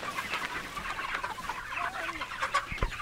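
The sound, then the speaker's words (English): A flock of chickens in a coop just dragged onto fresh grass clucks and murmurs, with overlapping soft calls and a few sharper squawks over a steady outdoor background, no talking. “They place a dolly under one side and arrange a rope around their bodies from the other, dragging the coop the 10 or so feet to get the chickens on their fresh grass.”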